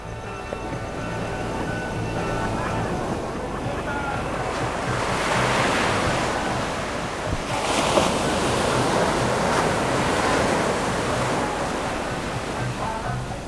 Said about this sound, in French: Au pied du phare, comme Dieu le veut, la mer et son éternel ressac de musique. Il faut écouter la musique à l'intérieur de la vague.